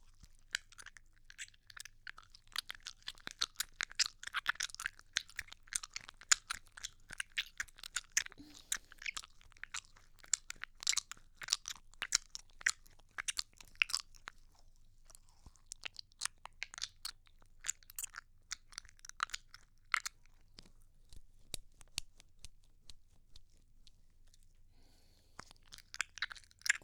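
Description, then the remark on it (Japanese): Wet, squelchy rubbing of a generous amount of lotion on skin, with hands pressed and rubbed between breasts and the lotion foaming. Dense, crackling slick sounds come in rapid irregular bursts, with a few brief pauses. No voices are heard. “結構ローションたっぷりめに塗ったので超エロい音が出ると思います。”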